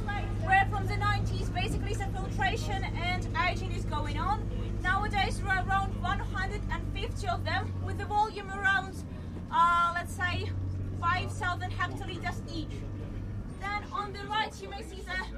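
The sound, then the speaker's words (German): A steady, low engine rumble drones from inside a moving bus carrying a group around the grounds of a former brewery, with several people chatting continuously over it. “Und man selbst bewegt sich übrigens draußen gerne mit dem Bus weiter.”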